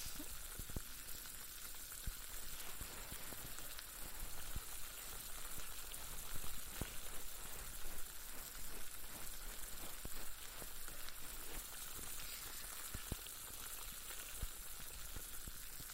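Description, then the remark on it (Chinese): A steady ASMR fizzing and bubbling in the ear, like dense tiny bubbles popping, with soft crackles and occasional sharper pops throughout, fairly quiet and continuous, with no talking. “耳朵里面冒着气泡的感觉，还挺爽的吧？”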